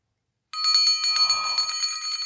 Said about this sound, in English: Remember the bell? Yeah, but does that mean I'm wrong about Campari? No, it means you're right.